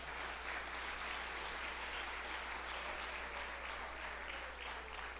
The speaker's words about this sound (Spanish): Dale un aplauso al Señor si se la quieres dar.